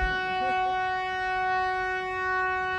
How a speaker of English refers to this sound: We were briefly interrupted by a boat going out with the Living Classroom Foundation, a group of school kids learning about the river.